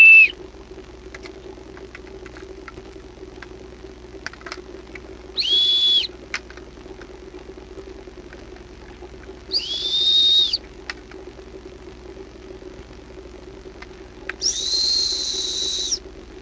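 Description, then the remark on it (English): Four high, steady whistles, played as a demonstration, sound one after another with several seconds of pause between them, each holding a single clear pitch over a low, constant background hum. Nobody speaks. “So what was up with those four whistles?”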